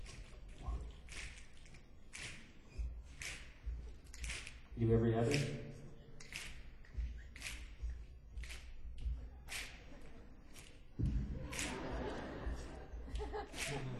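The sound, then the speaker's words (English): An audience on the lower level snaps their fingers to imitate a hippo's toenail scraping runway pavement before takeoff, a scattered, irregular patter of sharp, crisp clicks that keeps going throughout, while a voice speaks briefly over them and a low murmur rises partway. “Let's see, you folks on the bottom, let's maybe some finger snaps, like right about here.”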